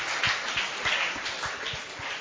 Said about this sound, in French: Voilà, il y a une dame qui est de l'autre côté. Merci de l'encourager. Merci de l'applaudir très très fort.